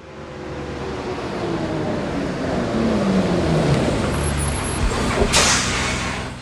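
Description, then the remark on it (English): A bus engine rumbles steadily, its pitch shifting as it moves, then a sharp hiss of air brakes bursts out briefly near the end. “I'll go on a bus to Grandma and Grandpa's.”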